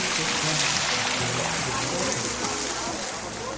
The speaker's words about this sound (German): So, und ich halte da jetzt meine Füße noch mal rein. Das kann man nämlich machen. Angenehm kühl, das Wasserspiel. Kleines Fußbad.